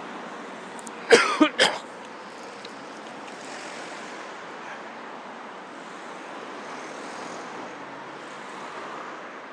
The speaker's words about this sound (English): There is a crossing. Good boy, good boy. Well done. Lots of traffic.